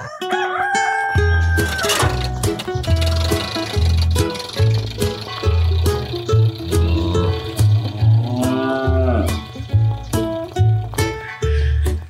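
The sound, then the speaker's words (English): A bouncy country-style radio theme tune, the theme of the Country Ladies Hour on the radio in Badoo Springs, with a thumping steady bass beat, overlaid with farmyard sounds of bulls, cows and a tractor and crowing-like cries, loud and up-front with no talking. “it's very country radio. It's a bit of fun, and it's got the bulls and the cows and the tractor.”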